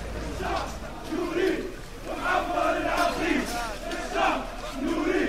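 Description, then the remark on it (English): A large crowd chants in unison outdoors at the site of a bomb attack, outside one of the buildings hit, voices rising and falling in repeated rhythmic phrases, loud and sustained with a dense roar of many people shouting together. “This audio starts with people chanting at the site of this bomb attack.”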